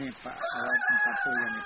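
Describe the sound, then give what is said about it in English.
A rooster crows once, a loud, drawn-out cock-a-doodle-doo with a strained, rising-and-holding call that fills the moment on its own, as it starts to rain. “I killed that damn chicken. Yeah, it is a little loud, isn't it?”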